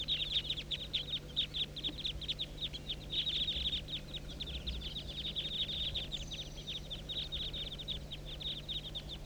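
A flock of about 25 to 30 birds circling above a hollow calls continuously. Their dense chatter of rapid high-pitched chirps pulses in quick succession over a steady low hum, with no voices.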